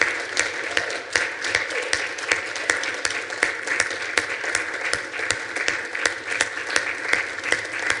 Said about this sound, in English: And I want to give her an applause and a special gift this morning.